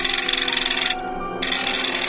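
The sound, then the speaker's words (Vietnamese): A loud, harsh electric doorbell at the door of a family home, pressed repeatedly, rings in two long bursts separated by a brief pause. Its buzzing, metallic tone is sustained and insistent, with no voices. “Lúc cả nhà đang xúm quanh tôi thì có tiếng chuông gọi cửa bấm liên tiếp.”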